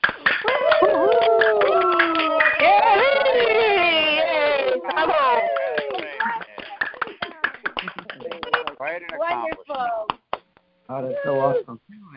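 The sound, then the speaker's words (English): A group of voices on a phone call, unmuted to congratulate newly ordained reverends at an ordination, whoops and cheers in overlapping, wavering cries, followed by scattered clapping and more whoops. The sound is thin and band-limited, as the people join over phone lines. “So take your phones off of mute and let's woohoo them and clap.”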